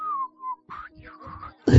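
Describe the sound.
A person whistles a short tune: a few clear, sliding notes that dip and rise, then end abruptly in a loud burst of noise.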